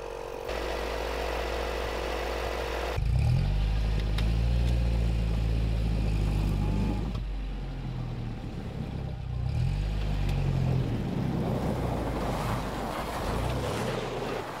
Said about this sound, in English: This is a UAZ vehicle which was designed back in the Soviet era, the most popular car in the rural areas in Yakutia. While it may not have that many features, not getting stuck on the highway when it's minus 50 degrees outside is far more important